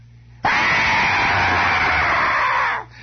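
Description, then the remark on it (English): A voice lets out one long, loud, shrill scream imitating a radio station, held steady at full strength for over two seconds before cutting off abruptly. It's a single unbroken shriek with no talking. “In fact, I know one radio station out of town that is one long, unearthly, shrill scream, 24 hours a day.”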